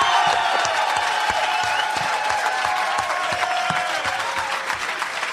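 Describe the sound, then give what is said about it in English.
A round of applause from a crowd for Red McCombs, owner of the Vikings, after a great season, dense steady clapping with faint cheers and whoops mixed in, fairly loud and continuous without a break. “And I think he deserves a round of applause with a great season, Red McCombs of the Vikings.”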